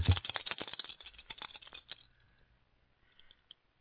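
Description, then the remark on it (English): Dice cast for lots rattle rapidly in a loud, dense burst of clicking for about two seconds, then tumble to a stop with a few sparse, faint taps. No voices are heard. “And they divided my garments among them, and for my vesture they cast lots. Who speaks? The thief to the left. Give me the dice.”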